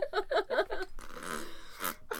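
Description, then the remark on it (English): A quick series of buzzy, sputtering fart noises, seemingly made with a mouth, followed by a longer, breathy raspberry sound, moderately loud. “Fart noises.”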